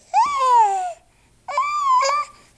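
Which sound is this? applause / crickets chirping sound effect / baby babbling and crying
baby babbling and crying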